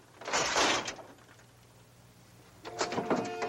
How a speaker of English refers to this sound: It opens only the slightest crack. pulls at the door panel and it slides around.